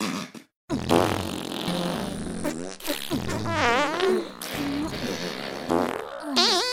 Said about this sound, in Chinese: 不过也没别的办法。姐妹们，我们一起放屁。